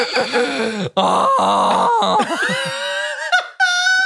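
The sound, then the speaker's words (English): A voice imitates a squeaky rubber chicken toy with loud, strained squawks that waver in pitch, broken by brief gaps and finishing on a thin, high-pitched squeal. “What if it was just one of those screaming chickens?”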